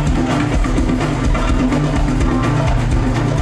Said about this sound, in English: driven by the pulsating beat of the krakibs, metal castanets that are played at astonishing speed.